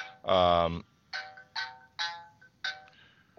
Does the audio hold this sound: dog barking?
no